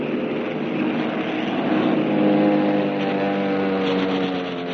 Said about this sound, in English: Machine guns chattered, planes roared and dived